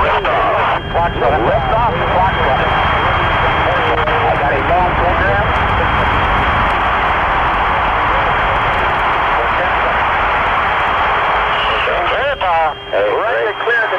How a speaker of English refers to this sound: 10, 9, 8, ignition sequence start. 6, 5, 4, 3, 2, 1, 0. All engines running, commit.